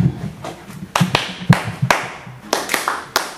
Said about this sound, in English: So we're going to play a song. Clap your hand after me.